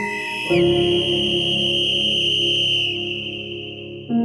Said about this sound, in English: I imagined his dry lips around the whistle and the dispirited emergency crew's layers of rubble above him, leaping up, shouting, "Someone's down there! Someone's down there!"